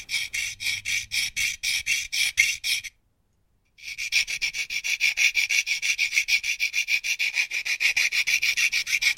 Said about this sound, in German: Eine Feile. Sofort machte sie sich daran, das Vorhängeschloss aufzufeilen.